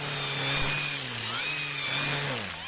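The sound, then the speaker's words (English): A small gas engine from landscaping equipment drones steadily and loudly, its pitch wavering up and down as the throttle shifts, with no voices over it. “In one test, Fair Warning found that when compared to a nearby busy intersection, the ultrafine particles coming from the small gas engines were more than 50 times more concentrated.”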